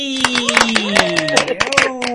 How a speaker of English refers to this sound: definitely deserves a round of applause.